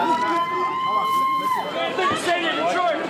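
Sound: crowd of supporters cheering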